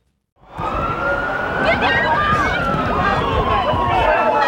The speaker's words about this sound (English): The sounds of chaos on the streets of New York City as ambulances, police and workers flee the collapse of the World Trade Center's Twin Towers.